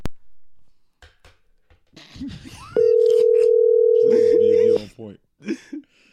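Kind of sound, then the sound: signal or alarm, phone call tone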